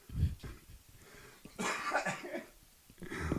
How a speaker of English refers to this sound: Woo, caught me mid-cough there, friend.